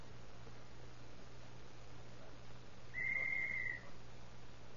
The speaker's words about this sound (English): He went right through that glass door when you blew that whistle.